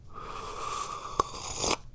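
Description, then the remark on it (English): An airy slurp of someone taking the first sip of very hot tea of the day, a drawn-in hissing breath with a small click partway through that swells briefly before cutting off. No one speaks. “And there's the sound of the first sip of tea of the day.”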